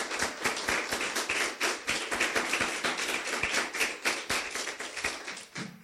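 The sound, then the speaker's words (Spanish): An audience applauds the Lord steadily, many hands clapping in a dense, crackling patter that holds an even level throughout, with no voices standing out. “Pero a esta saldré un aplauso al Señor.”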